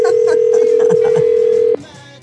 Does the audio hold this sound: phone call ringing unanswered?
yes